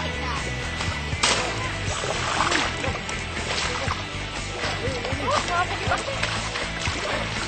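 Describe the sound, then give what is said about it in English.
Continuous heavy splashing and sloshing of water as elephants bathe and wrestle in a river while people scrub an elephant, with churning surges and indistinct voices mixed underneath. “While me and my friends wrestle in the water, Thurston and Crawford are going to have to work hard to scrub Camoon nice and clean.”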